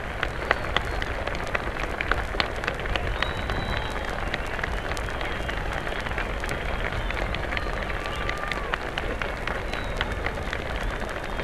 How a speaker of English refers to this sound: The president is standing there now at the speaker stand, acknowledging the plaudits of the crowd, bowing.